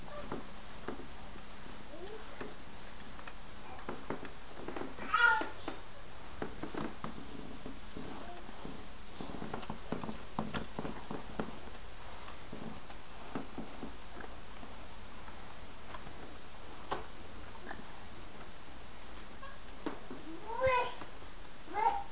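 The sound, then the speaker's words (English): A cat named Kitty meows a couple of times, short high calls near the start and again near the end, over soft clicks and faint scuffling noises. “Is Kitty eating?”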